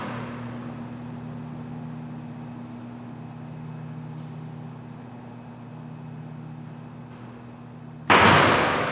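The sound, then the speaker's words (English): A steady low mechanical hum fills the scene for several seconds, then a stun gun held to a heifer's head in a knock box is discharged with one sudden, loud, sharp crack that cuts through everything at the end. “The stun gun is brought to the heifer's head and discharged.”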